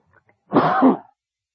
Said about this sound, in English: I get up to preach and I begin to cough. Excuse me.